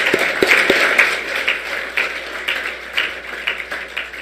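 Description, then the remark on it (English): A room full of people applauds, a dense, steady patter of many hands clapping at once, moderately loud and sustained for several seconds without voices. “That's worth a round of applause for sure.”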